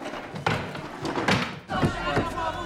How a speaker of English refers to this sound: The car is now being rocked more violently from side to side.